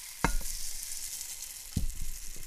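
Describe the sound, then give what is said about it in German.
Mixed grain seeds are poured into a soft fat mixture to make bird food, in two short bursts, each a quick thump with a brief rustle, over a steady sizzling hiss. No one speaks. “Also alle Körner jetzt erstmal hier rein von den Mischkörnern.”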